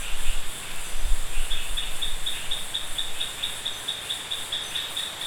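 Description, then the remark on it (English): Steady rain hisses through the rainforest in Park Mashwala on Nosyamonga Bay Island, northeastern Madagascar, while a dense insect chorus buzzes high above and a rapid, evenly pulsed chirping repeats throughout; no voices. “And what you can now hear, just as we started, is the sound of rain.”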